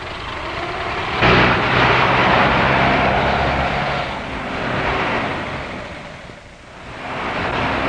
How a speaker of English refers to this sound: And there's plenty of speed at an auto race, once they get going.